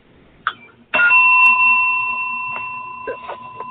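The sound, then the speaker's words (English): A small bell over the counter at a town hall office gives one bright ding that rings on and slowly fades, preceded by a light tap and followed by faint clicks as it decays. “That's the bell over the counter.”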